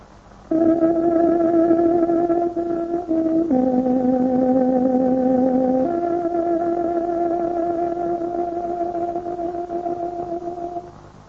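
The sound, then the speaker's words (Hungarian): A tárogató plays the ten o'clock exact time signal on Radio Free Europe's Hungarian broadcast: a short melody of a few long, steady reedy notes, shifting down in pitch and then back up, loud and alone with no talking. “Tárogatónk 10 órát jelez.”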